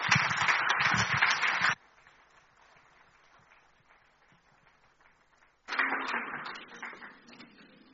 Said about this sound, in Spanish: Así que gracias, un aplauso para ellos.